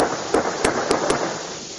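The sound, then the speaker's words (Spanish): Four sharp firearm gunshots crack out in quick, uneven succession over a steady wash of outdoor background noise. “Se escuchan también algunos disparos de armas de fuego.”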